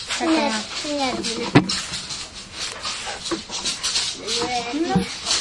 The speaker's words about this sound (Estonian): Koerad läksid peast rumaaks.